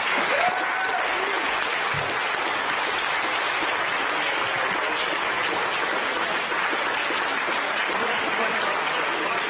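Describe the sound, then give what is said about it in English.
Sustained applause from a roomful of people in a mission control center, celebrating the James Webb Space Telescope's separation from the Ariane 5 upper stage, fills the whole stretch, a dense, steady wash of clapping with no clear pauses, and a few cheers mixed in. “The James Webb Space Telescope, amidst applause here in the Mission Control Center, now taking its first steps in pursuit of cosmological discovery.”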